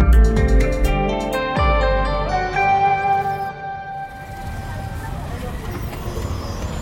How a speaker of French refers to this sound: ce qu'on entend là, c'est le bruit de la circulation à New Delhi. Donc il y a du monde